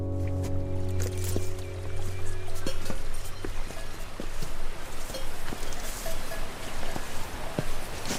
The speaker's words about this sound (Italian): Abbiamo attraversato il fiume